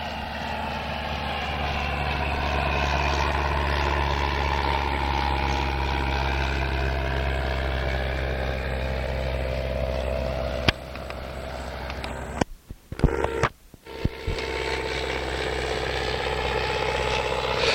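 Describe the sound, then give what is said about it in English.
A Piper J3 light aircraft flies by, its loud, buzzing engine drone holding steady while the pitch slowly bends, with a few brief dropouts near the end. No one speaks. “J3 in a flyby.”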